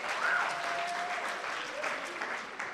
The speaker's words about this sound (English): Awesome, guys. Can you guys give yourselves a round of applause quickly for a moment?